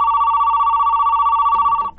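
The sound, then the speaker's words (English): A telephone rings steadily with a bright, warbling electronic tone for nearly two seconds, loud, then cuts off abruptly with a faint rustle at the end; the call is from Dave, a friend. “It's Dave on the phone.”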